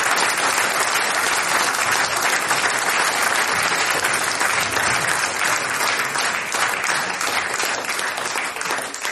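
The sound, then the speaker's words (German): Sustained audience applause for a group of singers after their performance, dense and steady throughout, a loud wash of many hands clapping with no pauses and no voices rising above it. “Die Launching am anderen Leute stehen für ihren Applaus sogar extra noch einmal auf.”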